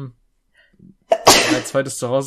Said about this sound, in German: Ich muss niesen.